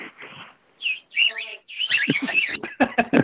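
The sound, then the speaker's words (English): A bird calls repeatedly with bright, high chirps and warbling tweets in quick bursts, growing busier and louder toward the end, with a faint low murmur underneath. “That bird is driving me crazy.”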